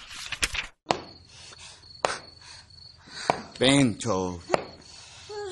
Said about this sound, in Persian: وقتی من هم سن تو بودم هیچ وقت یه توپ تنیس رو اینجوری به دیوار نمی کوبیدم